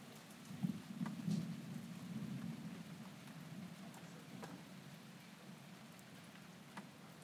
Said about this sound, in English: It keeps stopping and starting, the rain. It's just rumbling in the distance. There's a lot of lightning.